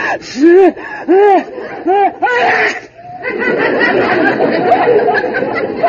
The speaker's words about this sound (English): That sneeze came from the closet.